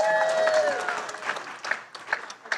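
An audience at a worship service breaks into a dense wash of clapping for a woman, loud at first and gradually thinning out, with a brief held musical tone fading in the opening moments.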